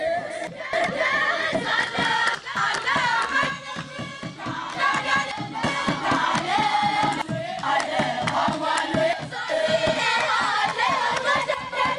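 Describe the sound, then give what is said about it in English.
A group of young women sings a traditional Palm Sunday hymn together as they come down a mountain, voices loud and steady, with rhythmic clapping or beats running under the melody throughout. “And then we even encountered a group of young women singing a traditional Palm Sunday hymn as they came down the mountain. This was them singing that song.”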